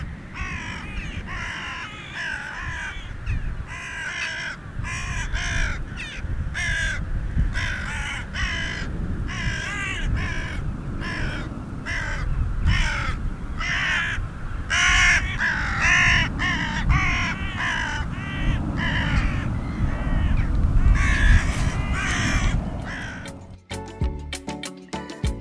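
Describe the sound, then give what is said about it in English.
A carrion crow caws again and again in a long, steady series of harsh, rasping calls, each short and loud, over a low rumbling background that ends in a few clicks. “Although now classed as a separate species to the similar hooded crow, the carrion crow can interbreed with its cousin, and hybrids do occur where their ranges cross.”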